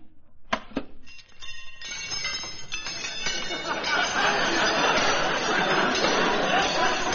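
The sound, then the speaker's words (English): A few sharp metallic clinks open, then a heap of silverware is dumped out of an opened case onto the floor in a loud, sustained jangling clatter, with bright ringing tones that keep going to the end. “Now open that case and dump your laundry out on the floor.”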